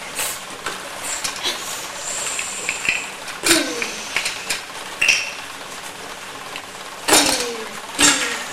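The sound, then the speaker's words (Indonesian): Hammering a nail: several sharp, ringing knocks land at an uneven pace, a few loud strikes among lighter taps, against a steady background hum. “Bagaimana caranya memukul paku?”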